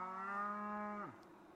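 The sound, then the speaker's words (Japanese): A single drawn-out cow moo, steady and fairly loud, with a rich harmonic tone that drops in pitch as it trails off at the end. “義仲の家来たちが牛を連れてきました。 もうもうもう、 たくさんの牛です。”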